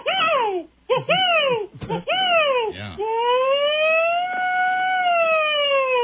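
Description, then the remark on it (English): A human voice hollers a distress call used to summon help across the woods, in loud, siren-like wails: several quick rising-and-falling swoops, then a long sustained tone that climbs slowly, echoing across open woods. “And then Distress, if you got in trouble, this would be your 911 call across the woods with the echo.”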